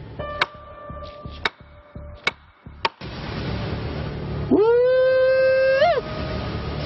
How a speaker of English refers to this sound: They knock on trees and clack rocks together. And this stick is my tree knocker. So when we get back farther, we'll knock some and see if anybody's out there wants to knock back.